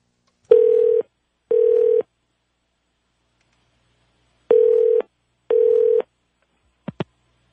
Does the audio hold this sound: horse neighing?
no